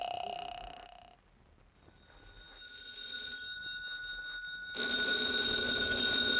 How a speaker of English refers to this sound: Mother, there's the phone. Shall I take it?